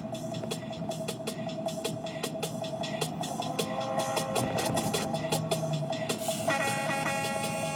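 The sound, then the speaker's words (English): A loud truck horn, used on Tuesday Night Live with DJ Envy instead of a dance hall air horn, blares in long, sustained blasts over a thumping, busy backdrop of sharp repeated hits, with a second higher horn tone joining near the end. “I like Tuesday Night Live with DJ Envy because instead of using the dance hall air horn, they just have a fucking truck horn. And they just hit that fucking thing.”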